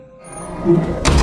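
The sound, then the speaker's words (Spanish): After a low, murky rumble, a bedroom door in a house slams shut violently near the end, a sudden loud, heavy bang that booms and lingers briefly. No one speaks. “Era el sonido de una puerta cerrándose. La puerta de mi habitación se había cerrado con violencia”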